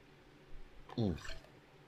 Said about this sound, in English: Sorry, I needed some water there.